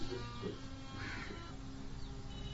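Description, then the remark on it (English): Bird calls, some harsh and crow-like, sound faintly over a steady background hum of outdoor ambience, with a brief louder call near the middle and no one speaking. “The twitter of the birds.”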